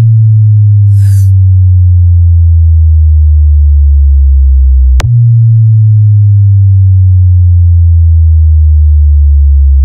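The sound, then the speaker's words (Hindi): A loud, deep DJ vibrate bass tone, played after a sound test, throbs continuously in a steady pulsing rhythm, slowly sliding lower in pitch, broken once by a sharp click midway. There is no talking. “आइए अब आपको सुनाते हैं अपने डीजे का तबाही मचाने वाला वाइब्रेट बेस।”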